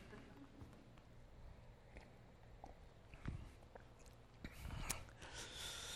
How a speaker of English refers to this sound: All right, I got to get a drink of water real quick, or I will sound like a blender chewing walnuts.